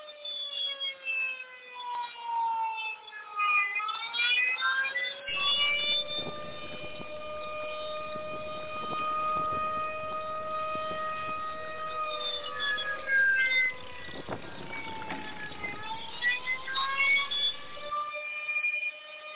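A loud alarm siren, sounded as a signal for switching to phone calls, wails continuously, its stacked tones slowly dipping and rising in pitch, with a rough, noisy texture creeping in partway through. No voices accompany it.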